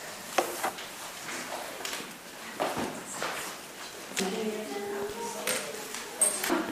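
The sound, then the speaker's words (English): A basket is lifted and carried, giving irregular creaks, rustles and a few sharp clacks and knocks, with faint voices murmuring in the background. “Wait a minute, we have to take this basket up so they don't have to take a chair.”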